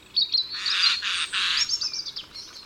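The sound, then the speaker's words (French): A Eurasian jay on an oak branch in autumn, having just stored acorns in a hole in the tree, gives harsh, raspy screeching calls, two or three grating bursts, with a few thin higher chirps mixed in around them. “il semble que le strident croassement qu'il émet traduit sa satisfaction pour le travail bien fait”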